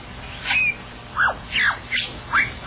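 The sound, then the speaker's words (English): A lyrebird, a mimicking bird, calls in a forest: about five loud, clear swooping whistles and chirps at uneven intervals, with no talking and a soft hiss of background ambience. “But it's this bird that makes the sound of, like, all of this weird crap, including, like, inanimate objects.”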